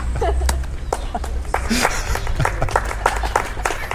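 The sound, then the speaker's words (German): An audience breaks into steady, dense applause, many hands clapping at once in a continuous crackling wash, with a few scattered voices calling out underneath. “Können wir gerade mal einen Applaus haben, bitte?”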